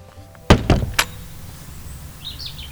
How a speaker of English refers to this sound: So the birds are tweeting, we've come outside.